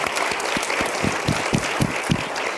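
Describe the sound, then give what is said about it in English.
A crowd claps steadily for Zam Zimmerippa, a past legislator, for coming and participating: a dense wash of many hands with quick repeated beats, sustained at an even, fairly loud level throughout without any voices. “Please give him a round of applause for coming and participating.”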